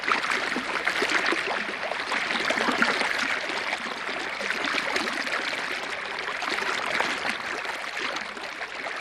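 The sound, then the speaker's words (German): A brook flows steadily throughout in Peter Weibel's sound piece Bach-Komposition, arranged in 1977 for a Zurich gallery, its water rushing and babbling in a dense, continuous wash of sound that stays at an even level with no voices. “Hören wir ein weiteres Beispiel aus einer Ausgabe von Kunst zum Hören, eine Art Vorgängersendung des Kunstradios, die Bach-Komposition von Peter Weibel.”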